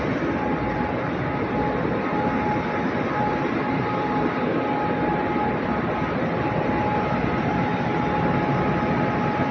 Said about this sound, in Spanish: Nosotros cual estamos verificando aquí que prendan los ventiladores de excitación. Y se escuchan unos ventiladores, uno lo verifica nomás.